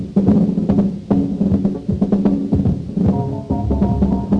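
A small town brass band in Bexley Heath plays a short, loud tune badly, thumping along with heavy beats and blaring, slightly ragged sustained notes that sound clumsy and out of step with each other.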